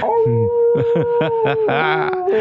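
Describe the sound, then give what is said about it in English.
A person imitates a wolf on Halloween, holding a long, steady howl for a couple of seconds while short rhythmic vocal yelps and barks overlap it. “in here howling at the moon.”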